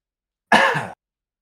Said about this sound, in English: While I'm coughing to death over here